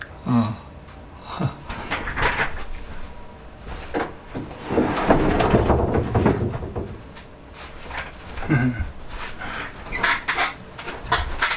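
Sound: door being closed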